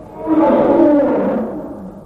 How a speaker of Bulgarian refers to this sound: Ще зарева като звяр.